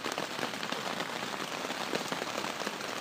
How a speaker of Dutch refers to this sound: Het blijft nu maar regenen. Op deze manier is het dus onmogelijk om zelfs buiten te komen, laat staan uw tent in te pakken.